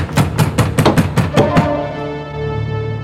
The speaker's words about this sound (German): Es klopft schon wieder. Quatsch. Wir spinnen beide. Es hat am Tor geklopft.